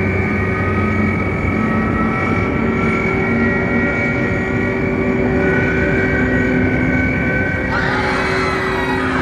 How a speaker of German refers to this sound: Was ist denn das? Ein Geschwader fliegender Untertassen. Was denn sonst? Schnell! Halt mich hier an dieser Stange fest. Was meinst du mit fliegende Untertassen? Eben das. Es ist eine Wogon-Bauflotte.